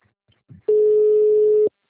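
A telephone line tone as a caller joins a group call by phone: one loud, steady mid-pitched electronic beep holding for about a second, preceded by a soft, brief low thump.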